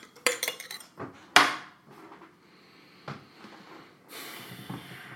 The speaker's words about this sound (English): Godfather whiskey right here, pouring it up like a boss.